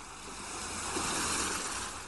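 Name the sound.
ocean surf waves breaking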